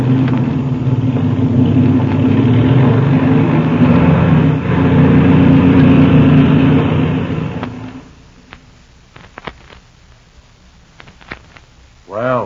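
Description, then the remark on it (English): A loud, steady airplane engine drone rumbles for several seconds as the engine is warmed up while the plane taxis out, then abruptly drops away, leaving near-quiet with a few faint clicks and a brief tone at the very end. “I'm going to warm up the engine as we taxi out.”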